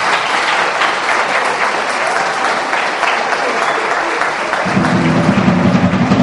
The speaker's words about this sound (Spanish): Y yo creo que cabe otro aplauso para un formador de formadores